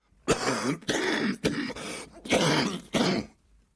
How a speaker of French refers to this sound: Suit un long silence ponctué de quintes de toux.